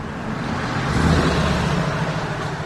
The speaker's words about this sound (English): Stand on the bridge that spans Saginaw west of MLK Drive at midday, and you're sure to hear the brisk hum of cars passing beneath you.